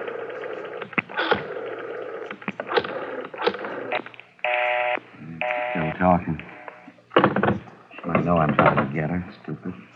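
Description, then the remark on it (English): A telephone is dialed to call a man's wife, dialing 9 to get an outside line, a short steady tone sounding partway through, while voices talk before and after it. “Dial 9 to get outside”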